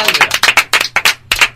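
Audience applause: a quick run of loud, crisp claps in an uneven rhythm, briefly pausing before a final burst of clapping resumes.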